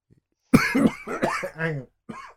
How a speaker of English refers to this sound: Someone dying in the background. That's me. Sorry. I need to have a little coughing fit, apparently.